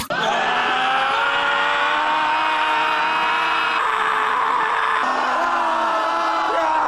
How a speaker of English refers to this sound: Pretty much people rocked up at a park and they all just started yelling and stuff.